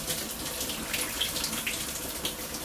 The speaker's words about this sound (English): So, right now I guess I'm just gonna be taking a shower. Because I'm pretty bored.